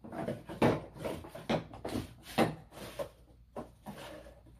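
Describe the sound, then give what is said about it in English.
Someone rummages through a drawer, with an irregular string of clattering knocks and scrapes as objects are shoved around. Brief pauses break up the steady, moderately loud clatter, and no one speaks. “Let me ferret around here for a second. I'm digging.”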